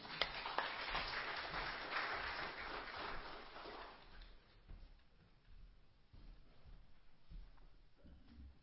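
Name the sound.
audience applause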